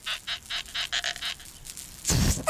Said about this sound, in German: Diesmal quietscht Kali mit einem neuen Luftballon.